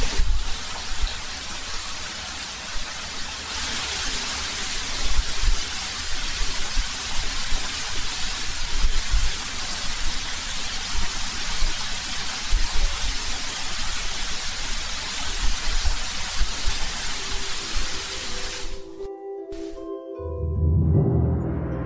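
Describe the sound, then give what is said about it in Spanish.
Steady, dense hiss of heavy rain pouring down, loud and continuous for about nineteen seconds before cutting off abruptly, followed by a brief tonal sound at the end. “Qué curioso, se oye perfectamente la lluvia, ¿eh?”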